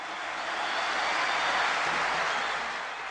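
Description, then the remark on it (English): Men in the audience at an Islamic conference in Cairo, Egypt, held while President Morsi was in power, stand and applaud after a preacher speaks. The clapping is a steady, dense wash that swells slightly in the middle and holds for about three seconds, with no one speaking over it. “Men in the audience stand and applaud.”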